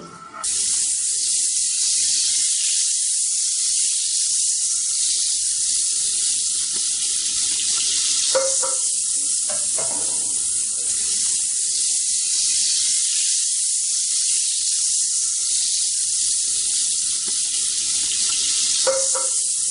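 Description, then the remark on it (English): Flour-dusted chicken sizzles steadily in a frying pan, cooking for about 3 to 4 minutes a side until golden brown. A loud, constant high hiss is broken by a few brief pops and crackles, with no one talking throughout. “Now you just let that cook for about 3 to 4 minutes on each side till it's nice and golden brown.”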